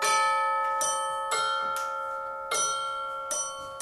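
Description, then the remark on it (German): Copper water-pipe tubes from a hardware store, used as chimes, are struck one after another by hammers on electromagnets taken from organ building, each sharp strike blooming into a bright, sustained ringing tone that overlaps the last, forming a slow sequence of about seven notes. “Und dann gibt es diese Röhren, die eigentlich den Klang erzeugen. Kupferrohr aus dem Baumarkt, da werden normalerweise Hauswasserinstallationen mitgemacht.”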